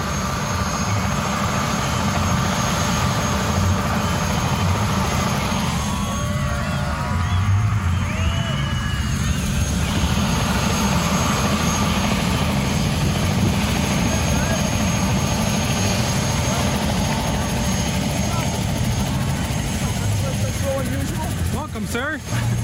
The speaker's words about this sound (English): we heard the whir of helicopter blades as Bill Nye, our CEO, arrived